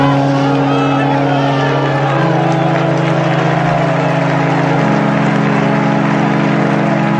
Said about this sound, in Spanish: Aplausos al paso del féretro en una ceremonia que ha sido oficiada por el actual Papa Francisco